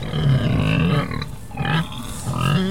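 A piglet grunts in three rough, nasal bursts, low and throaty with a slight squealing edge, fairly loud and heard on its own without any talking.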